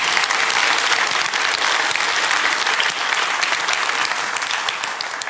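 A large audience at a talk on security vulnerabilities applauds the people who helped the speaker deal with them. A dense wash of clapping holds at a strong, even level for several seconds before tapering slightly at the end.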